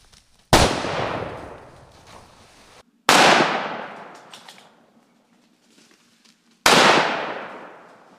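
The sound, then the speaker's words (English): Three loud, sharp rifle shots are fired a few seconds apart at a feral pig in daylight, each trailing off in a long rumbling echo, with no voices in between. “Well, I've just shot my first pig in the daylight and it's turned into a submarine.”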